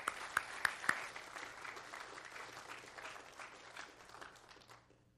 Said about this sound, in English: Let's give a round of applause for Brother Sammy.